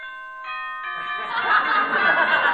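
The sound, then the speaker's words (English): A bright ringing boxing bell strikes a few times to start the first round, with sustained metallic overtones, then gives way to a burst of crowd noise and chuckling that swells over the ringing. “Here's the bell for the first round.”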